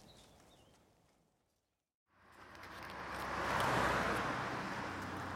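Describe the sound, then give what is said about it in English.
Faint outdoor ambience with a chirping bird drops to near silence, then a car swells in, growing to a loud rush of engine and tyre noise as it passes, its driver waving. “was that Anna Tregaron waving at you? Yes, it looks like her car.”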